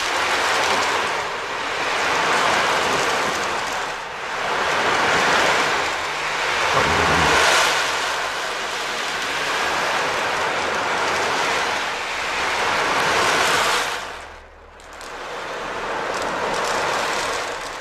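An ocean drum, a drum meant to imitate the rushing of the sea, rolled back and forth, producing broad, swelling washes of hiss like surf rising and receding in slow waves, fairly loud, with a brief pause near the end.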